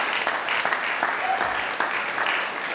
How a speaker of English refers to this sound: And we were not at all the demonstrations or all of the meetings or all of the legislative work that allowed that dam here for your Elwha River to come down. Two dams. Let's give a great round of applause for that.